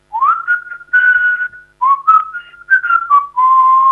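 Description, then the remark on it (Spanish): A person whistles a short melodic tune as a hint in a song-guessing game, with clear sustained notes gliding between pitches in several phrases separated by brief pauses, no talking. “Silbando, a ver si me sale.”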